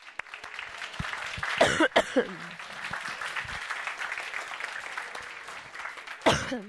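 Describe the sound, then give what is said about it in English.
A room full of people gives their team a round of applause, clapping steadily for several seconds, a dense crackling applause that holds at an even level, with a couple of brief louder bursts like coughs or shouts breaking through. “Give your team a round of applause.”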